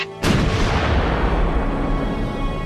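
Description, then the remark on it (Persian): A single heavy artillery cannon blast hits with a sudden sharp crack, then rolls into a loud, deep, sustained rumble that fades only slightly. No voices are heard. “کجاست آن گوش شنوایی که بشنود آوای تسبیحی را که از نای بلند توپهای ما برمی آید؟”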